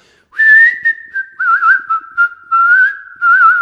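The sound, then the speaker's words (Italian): A bright, warbling whistle imitates the song of small birds hidden in tree branches, one steady melodic line with trills and little wavering flourishes, broken by brief pauses, loud and alone with no talking. “Nascosti tra i rami degli alberi, tanti uccellini cantano allegramente.”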